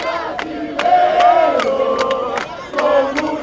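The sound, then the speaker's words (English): A large crowd of French soccer fans, many in the team's blue jersey, chants and cheers loudly in front of a giant TV screen outside City Hall in Paris, voices swelling together in sustained sung tones, with sharp claps or bangs punctuating the roar every half second or so. “Soccer fans chant and cheer in front of a giant TV screen outside of City Hall in Paris.”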